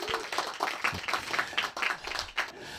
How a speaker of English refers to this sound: That always solicits applause.